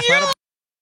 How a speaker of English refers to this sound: So in the springtime, a really good one is the puppy in distress. Oh, no matter what? He means a coyote puppy. The coyote puppy in distress. He doesn't mean like a dachshund.